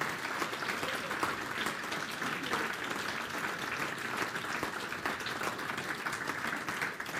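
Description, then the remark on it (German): Sustained applause from an audience for a group of young men being brought in, a dense, steady wash of many hands clapping at an even loudness for several seconds without pause. “So, So, jetzt nochmal dicken Applaus.”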